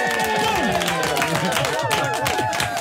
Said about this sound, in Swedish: En applåd för det.